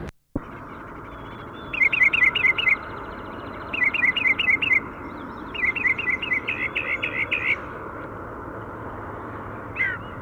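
bird calls

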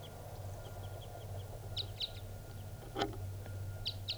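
male birds calling

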